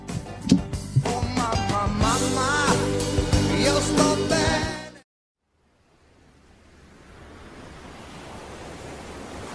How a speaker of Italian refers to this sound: Guarda quelle onde, Johnny. Guardale!